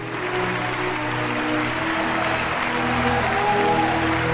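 Steady applause from a crowd fills the scene, a dense wash of many hands clapping at once, sustained and fairly loud without pause, with faint tonal sounds beneath it.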